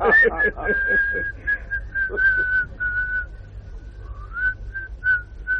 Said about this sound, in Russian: Не свисти, ….